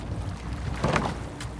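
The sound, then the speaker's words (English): A rowing boat out on the water, rowed by a blind rower, with oars dipping and pulling through with a soft splash, over a steady low rumble of wind and water. “It's the only time in my waking hours that I can forget that I'm blind is when I'm in a boat rowing, because it's all about the feel, the sound.”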